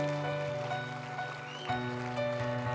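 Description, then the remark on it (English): An audience claps in a steady, dense patter for a few seconds for people who prayed for the first time, over sustained keyboard-like tones that hold underneath. “People are going to clap for you. Do it now.”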